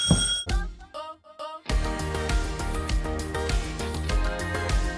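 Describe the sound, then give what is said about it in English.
A doorbell rings in a quick series of bright, descending electronic chime tones, then full, steady rhythmic music with a bass line and percussion takes over. “It was like... the doorbell.”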